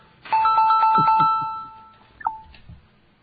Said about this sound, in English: Somebody pick that damn phone up!